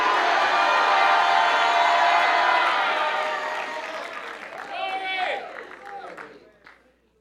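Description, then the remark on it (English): An audience at a church service applauds and shouts during a sermon in a loud, dense wash of clapping and cheering that gradually thins out, leaving a few raised voices calling out before it dies away. “You are not shouting loud enough.”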